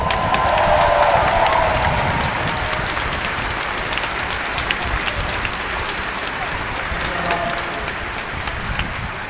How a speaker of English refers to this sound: I think you should keep the applause going for Evan Harris, who's done so much for this event today.